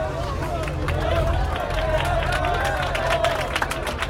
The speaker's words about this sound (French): Je vous parle en direct des halles médiévales de Sainte-Sévère, au milieu d'une foule en liesse, au moment où le cortège vient de faire son entrée sur la place du village.